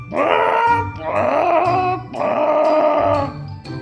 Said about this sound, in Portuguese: E foi então que o corvo abriu o bico para encher os pulmões e crucitou com toda a força que tinha.